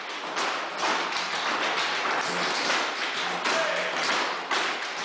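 A class of about a dozen students tap dances and claps at the Chicago Tap Summit, drumming out a dense, continuous clatter of bright metallic taps, many feet striking at once in overlapping rhythms, loud and steady throughout.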